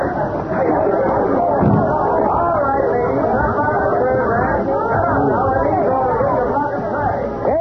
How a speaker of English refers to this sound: Something must have happened. Look at that crowd. I get out and see what it's all about.